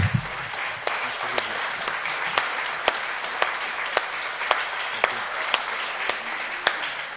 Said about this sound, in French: On peut applaudir vraiment